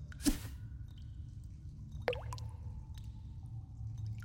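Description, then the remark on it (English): A light splash as a fishing line, its hook baited with jerky, drops into dead calm water, followed about two seconds later by a bubbly, pitched bloop as it sinks, over a steady low background rumble. “Think you can sink your line down there”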